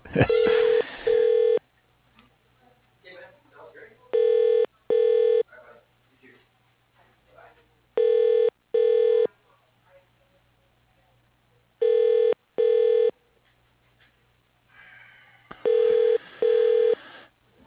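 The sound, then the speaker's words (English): Telephone tones while a call is transferred to voicemail: five loud pairs of steady, buzzy electronic beeps, repeating about every four seconds, with faint background murmur in the gaps. “So can I send you to his voicemail?”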